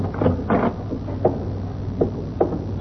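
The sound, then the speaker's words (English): The stage door of the Exarban Coliseum being opened, heard as a handful of short wooden creaks and clunks spread over a few seconds, above a steady low background hum with no one speaking. “We'll sneak through the stage door.”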